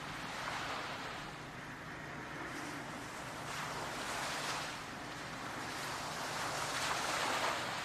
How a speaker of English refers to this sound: These peaceful waves gently lapping the shore, washing gently into the sand. The waves calming, peaceful, rhythmic.